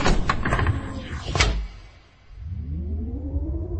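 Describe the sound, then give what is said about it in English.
A meeting-room sliding door glides shut with a soft pneumatic whoosh and a muted thud, followed by a low, rising hum as it settles. Fairly quiet, with no voices. “If only she could slam the door. But it wishes gently shut behind her.”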